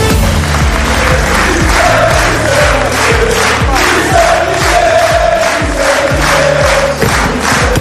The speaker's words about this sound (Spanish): Estos son los gritos a Luis Enrique ayer en París, en el Palacio del Eliseo, donde el Paris Saint-Germain, que ganó el sábado por 5-0 la final de la Champions al Inter de Milán, fue recibido por el presidente de la República, Emmanuel Macron.